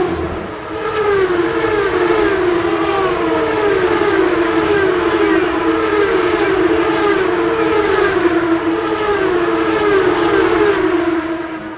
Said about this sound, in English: The engines revving. It just gives me chills and goosebumps. I just love to be here.